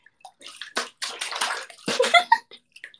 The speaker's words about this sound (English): Oh yeah, water ASMR.